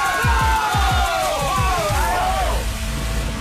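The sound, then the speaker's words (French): A rowdy crowd shouts and cheers, many voices overlapping in a loud, continuous roar, with a quick run of deep rhythmic thumps pounding underneath during the first couple of seconds. “Mais en même temps, ils sont tous en train de gueuler, hein! Ça met dans l'ambiance!”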